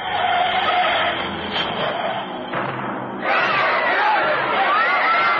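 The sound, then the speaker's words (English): Loud, continuous tire screeching from an 8-cylinder 3080cc Meridian car skidding as it turns the corner into 24th, mounts the sidewalk and hits the crowd outside a movie house, over a dense wash of crowd noise, the squealing growing sharper and more frantic in the final seconds. “And then a man called Martin Ross, aiming an 8-cylinder 3080cc Meridian, turned the corner into 24th, saw the oncoming traffic and mounted the sidewalk and hit the crowd outside the movie house.”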